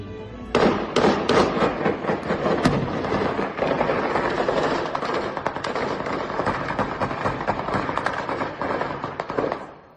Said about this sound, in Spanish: Los sicarios se ponen en posición de disparo y les fusilan. Mira, esto que vas a oír no es archivo, ¿eh? Es el sonido del tiroteo.